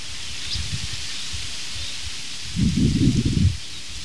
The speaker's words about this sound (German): Beenden wir doch diesen kurzen zweiten Teil dieses morgendlichen Podcastes mit dem schönen, nach Wasserfall klingenden Blätterrauschen der Espen.